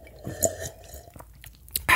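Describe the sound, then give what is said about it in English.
Someone drinks water: a few soft gulps and swallowing sounds with small throat noises, ending in a sudden louder breathy rush. No one speaks. “Let's both have a drink of water.”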